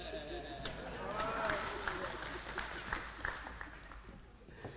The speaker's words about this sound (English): You may want to clap for the Marine.